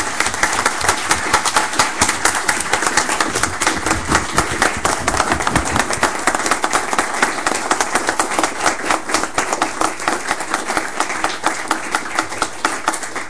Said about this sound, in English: You've had such a great impact on this community. And I don't know, I just feel like we should have some kind of a round of applause just to thank him.